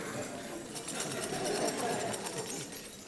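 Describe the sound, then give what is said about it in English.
A big set of keys jangling in a steady, bright metallic rattle that lasts about three seconds, with a shaking rhythm that swells slightly in the middle. A faint murmur of indistinct voices sits underneath. “Bet they're not as good as my keys, though.”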